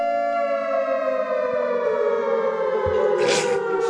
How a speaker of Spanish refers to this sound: Hemos empezado con un sonido de alarma porque, como hemos anunciado antes, hemos querido hacer esta sección especial con una alarma